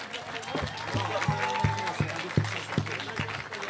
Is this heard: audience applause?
yes